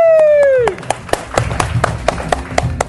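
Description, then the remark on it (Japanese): A brief falling vocal tone gives way to scattered, irregular hand claps from an audience welcoming a newly introduced member: a dozen or so sharp slaps over about two seconds, with low murmuring voices underneath. “まあ、名前知らなくても拍手してくれると嬉しいですね。”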